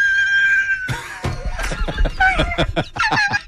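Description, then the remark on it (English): A human voice imitates a car screeching to a halt: a sustained, high-pitched squeal followed by a rapid string of choppy, honking vocal bursts, loud. “Like, it sounds like I'm a car screeching and coming to a halt.”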